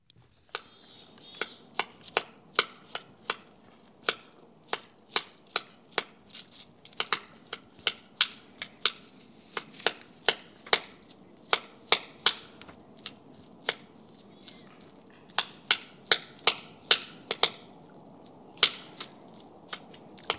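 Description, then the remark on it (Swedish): A three-toed woodpecker foraging for food, two individuals recorded by Lars Edenius in Klabböle outside Umeå, producing dozens of sharp, dry taps and pecks in irregular clusters, some louder and crisper than others, with brief pauses between bursts and no voices. “Ja, men så här års är tretåig hackspett tystlåten, men kommer man nära kan man ju höra den leta mat.”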